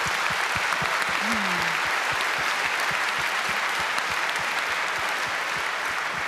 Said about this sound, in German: Gut, vielen herzlichen Dank für diesen Vortrag. Ich bitte noch einmal um Applaus für Katharina König und Heike Klefter.